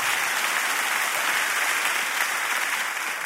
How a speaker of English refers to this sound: Come on, clap like that blessed you, even though I know it stepped on your toes a little bit.